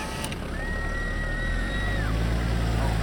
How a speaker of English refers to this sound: Oh, come on! It is 9 o'clock! Why is there traffic on Hollywood Boulevard?